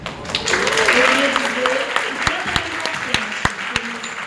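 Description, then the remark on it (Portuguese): A crowd applauds in a dense burst that gradually thins into scattered individual claps toward the end, with voices murmuring or talking underneath the clapping. “Parabéns, salve de palmas para a nossa amiga aqui.”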